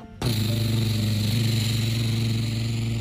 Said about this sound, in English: As the helicopter zoomed over the mountains, right over the bad guys, they started to dump all ton of water on top of the volcano.